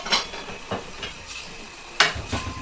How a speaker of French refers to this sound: Sima est debout devant l'évier. Elle range la vaisselle, puis ouvre un paquet de gâteaux.